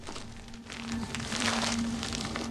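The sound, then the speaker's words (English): A large padded envelope marked confidential, taken from a forced-open desk drawer, is handled, giving a continuous papery rustle and crinkle with small crackles that grow a little louder midway. A steady low hum runs underneath, and no one speaks. “Inside is a large padded envelope marked confidential.”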